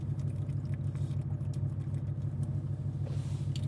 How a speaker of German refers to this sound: Wir sind unterwegs, Outdoor. Aber so, wir sind Outdoor. Wir sind Outdoor. Unterwegs im Auto.